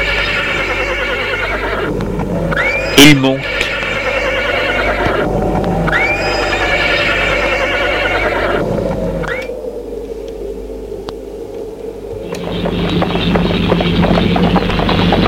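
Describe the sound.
A horse tied behind a cabriolet carriage gives a repeated rising whinny-like call over steady hoofbeat clopping, loud, continuing throughout, with a brief sharp knock near the start and a few spoken words.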